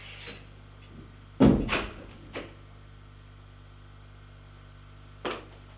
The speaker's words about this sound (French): Un autre huissier qui est assis à un bureau lui ouvre la porte de son bureau.